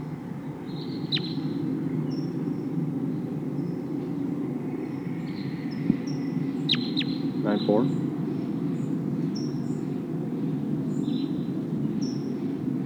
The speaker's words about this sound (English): It sounds like there's a whole flock of crossbills here. Big flock of about 10 birds. And they're heading for a pine tree near here. Now they're perched up in the top of a tall pine.